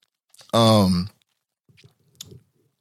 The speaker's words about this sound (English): So taking a drink.